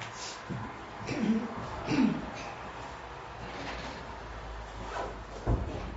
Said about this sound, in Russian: Прошу прощения, я прикрою дверь.